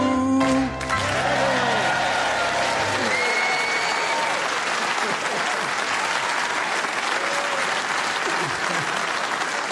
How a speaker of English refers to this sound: and for those of you who clapped along, do get a grip.